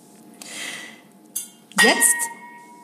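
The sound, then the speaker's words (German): An old tomcat knocks his metal drinking bowl about, making it rattle and clink, with a few scraping bursts and a sharp clang that rings on briefly, while someone talks quietly underneath. “Das ist mein Kater, der hier Randale macht in seinem hohen Alter. Ja, mit seiner Trinkschüssel hier.”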